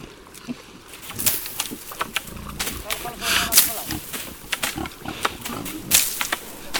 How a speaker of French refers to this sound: Cette activité traditionnelle, appelée la glandée, se pratique toujours aujourd'hui et donne du travail à beaucoup de pasteurs. Comme ce groupe que nous écoutons, il prend soin de ce pâturage et de ses porcs qui campent là.